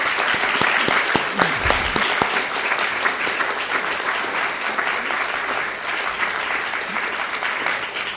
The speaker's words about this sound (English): And I'd like to have a round of applause